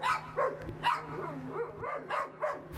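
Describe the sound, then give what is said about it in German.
Several dogs bark at a resident's house as survey students make their way to her front door: around six sharp yaps and barks overlapping in quick succession, with a faint steady hum running underneath. “Und manche müssen sich dafür erst einmal an bellenden Hunden vorbei zur Haustür der Bewohnerin kämpfen.”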